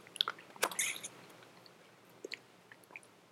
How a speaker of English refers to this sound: Now, okay, so one more sip, okay?